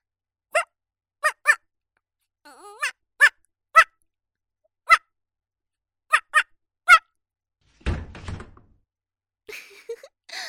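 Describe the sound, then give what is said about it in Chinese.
A voice imitates a female dog, giving about ten short, high yelping barks in uneven bursts, clear, followed by a brief rough thump and some faint rustling. “聪明吧，血母狗叫很像是吧，你家主人都被我骗过了，以为是条骚母狗进来了呢。”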